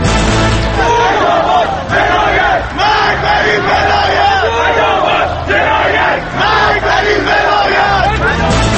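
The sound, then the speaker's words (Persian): A large protest crowd shouts loudly and continuously, many voices merging into a dense roar with repeated rising swells of yelling across the whole stretch. “قانون حاکمه اینجا، کشور آزادیه، میتونن اظهار نظر کنن، فریاد هم میزنن، ملت ایران یه پارچه است.”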